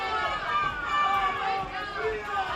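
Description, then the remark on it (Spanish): A crowd boos Spain's Attorney General García Ortiz as he arrives at the Palacio de las Salesas, a steady dense wash of many voices jeering together with no break, fairly loud throughout the short stretch. “A su llegada al Palacio de las Salesas ha sido recibido con abucheos.”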